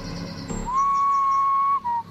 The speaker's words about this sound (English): A single whistle sounded to the left of me. I spun in the direction of it, my eyes wide and heart pounding. I didn't see anything through the trees.